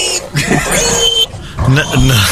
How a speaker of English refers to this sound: What about wee like a pig?